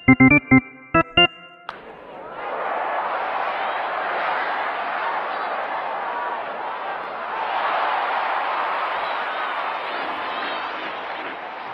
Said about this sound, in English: Boy, that was a great hit, and it's nice to hear that cheer with the World Series coming up, of course. And that extra cheer in the middle, though, I think maybe they just hanged someone also